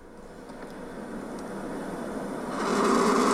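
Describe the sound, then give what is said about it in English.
A turkey vulture (turkey buzzard) projectile vomiting: a steady, noisy rushing hiss that swells louder and harsher near the end, with no voices. “Our next bird likes to eat dead things, and if threatened, can projectile vomit on cue.”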